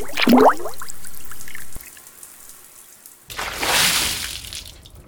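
Water splashes briefly in a bathtub at the start as a flip-flop is placed on the surface of the tub water, followed by a quieter stretch and then a louder rushing slosh of water near the end. No one speaks.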